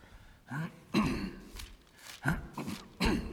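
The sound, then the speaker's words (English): A series of five or six short, harsh coughs and throat-clearing bursts in an irregular rhythm, moderately loud, with brief pauses between them and no talking. “I'm coughing as much as you guys are.”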